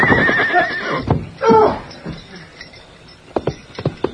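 A horse, ridden hard at night over ground studded with gopher holes, whinnies loudly with a wavering, shrill neigh as it trips and falls, then snorts and grunts amid a brief scuffle, followed by quieter thuds and sharp scraping sounds.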